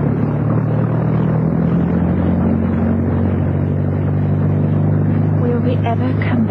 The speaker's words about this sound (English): And then suddenly, with a roar, the MTB's young commander put his engines into full ahead.